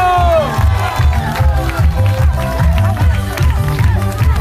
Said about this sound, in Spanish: Fuerte el aplauso para nuestro alcalde, Héctor Barriáculo.